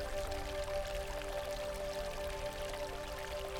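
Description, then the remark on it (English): Steady trickling, pouring water runs continuously at a moderate level as someone slips into the water, layered over a soft sustained humming drone, with no voices present. “Tears of joy and self-realization run down your cheeks as you slip into the water.”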